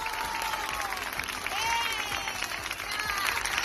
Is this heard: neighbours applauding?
yes